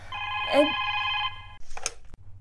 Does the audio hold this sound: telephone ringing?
yes